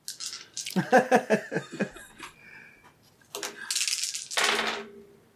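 Dice are rolled for a charm roll in a game, clattering and tumbling across a hard surface in a quick run of sharp clicks that slow and fade, followed by a couple of brief rattling bursts.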